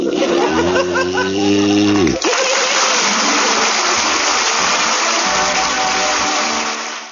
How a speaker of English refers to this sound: Snore to me